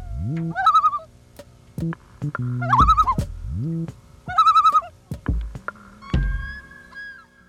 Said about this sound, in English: Loon. A group of aquatic birds found in many parts of North America and Northern Eurasia. Loon, also on the back of the Canadian coins.